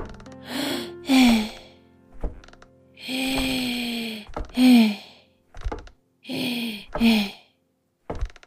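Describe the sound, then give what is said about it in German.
Heavy breathy panting and strained, drawn-out groans from a woman climbing wooden stairs come in repeated bursts, fairly loud, with a few dull thumps between them like slow steps on the wooden stairs. “Im Wäschekorb im Schlafzimmer lauschten vier Sockenohren dem Schnaufen auf der Treppe.”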